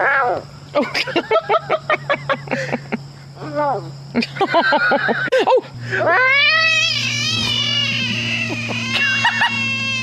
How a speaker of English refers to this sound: Well, it is a large frog.